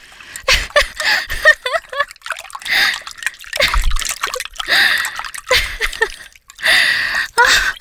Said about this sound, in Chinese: 你溅得我全身都是，亲爱的。